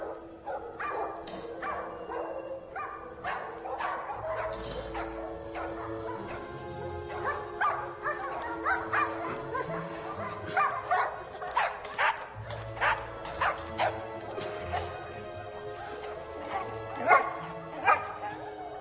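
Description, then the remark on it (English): A dog barks and yips again and again in quick, uneven bursts, fairly loud, with a few whimpers mixed in over a steady low background hum. “I tell you, that's one good dog.”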